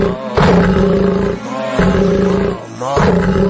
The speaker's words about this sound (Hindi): ये असली शेर नहीं है, केसियो का शेर गूंज रहा है।